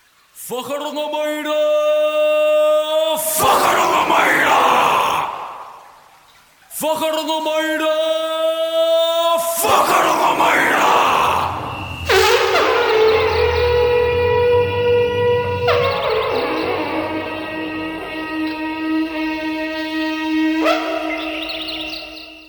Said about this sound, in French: C'était donc mon jingle bien roots à base de cris barbares et de trompes.